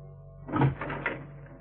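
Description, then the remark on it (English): A woman pulls a door open: a short muffled clunk and rattle of the latch, lasting under a second, over a steady low background hum. “Okay, lady. Open the door.”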